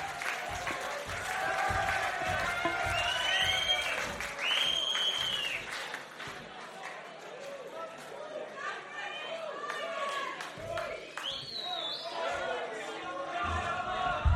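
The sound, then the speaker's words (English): A large crowd at a live concert applauds loudly and steadily for the band's keyboard player, with sharp whistles and scattered cheering rising above the dense clapping throughout, sustained without a break. “Mr. Carl Garrett here on keyboards. Round of applause, please.”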